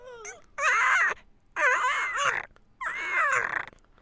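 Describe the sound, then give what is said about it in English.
A voice imitates a distressed little creature with three loud, high-pitched whimpering cries, each wavering and sliding in pitch, separated by short silences. “So you can think of like a puppy or a baby while you're doing it. And if it's distressed, it can be a.”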